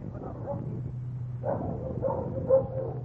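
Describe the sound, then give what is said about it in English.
Several dogs bark and yip in the quarantine kennels of the Seeing Eye guide dog school, where newly arrived dogs of various breeds (Labradors, Chesapeake Bays, mostly German Shepherds) are placed on probation; overlapping echoing bursts over a steady low hum, with no one speaking. “First, we'll step into the kennels, the quarantine kennels where the new dogs are placed on probation when they arrive at this haven of the Seeing Eye.”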